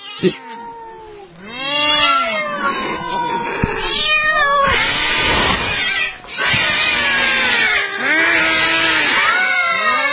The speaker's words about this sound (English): Oh, that's scaring me. Oh! Oh, those cats are freaky.